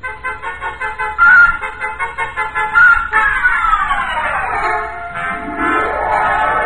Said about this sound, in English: I backed out of that wind tunnel, got in my car, and drove noisily around the corner.